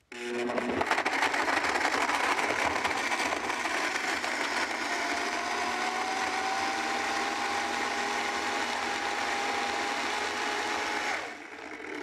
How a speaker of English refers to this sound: And we're just going to blend that up and into a nice kind of start for the dessert.